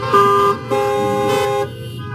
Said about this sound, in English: Somebody honk your horn if God has been good to you.